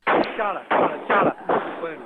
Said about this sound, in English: In the second largest city of Mandalay, today more than 10 people were arrested. While on the phone with a resident there, several shots were overheard.